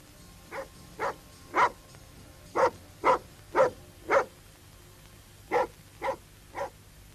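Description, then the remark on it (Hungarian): A dog barks about ten times in short, sharp bursts, grouped in quick runs of three and four with brief pauses between, fairly loud with no talking. “Az csengetni szokott, nem ugatni?”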